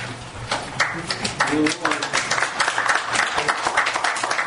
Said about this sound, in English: Please, let's not have applause or yays or nays or any of that, and make sure that all the comments are directed towards the chair, not to the individual members of the board.